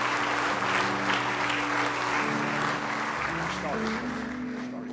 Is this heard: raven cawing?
no